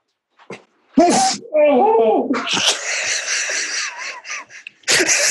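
A sharp, loud sneeze bursts out, followed by strained, wavering groans and moans of pain from a person whose back has gone out from the sneeze, then a breathy exhale and another sudden noisy burst at the end.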